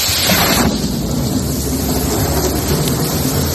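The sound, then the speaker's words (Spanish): A thunderstorm in the Horta Sud area of Valencia, Spain, with deep, sustained rumbling thunder rolling over a steady wash of heavy rain, loud and continuous throughout with no voices. “También en la Horta Sud de Valencia se han registrado fuertes tormentas que están ocasionando incidentes en vías intransitables.”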